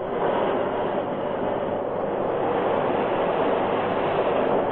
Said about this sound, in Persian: این قطارا پشت سر هم رد میشن.